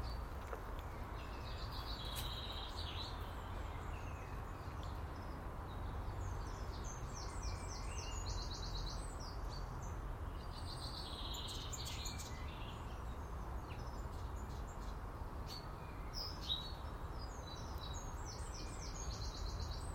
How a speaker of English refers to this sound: It's just beautiful. Yep. Sunshine and birdsong.